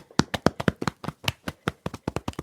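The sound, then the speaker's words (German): Rapid thumping as small fists drum on a chest, a quick, uneven run of dull beats with no talking, about fifteen or more hits in a couple of seconds. “Balle deine Hände zu kleinen Fäusten und trommel mal auf deiner Brust.”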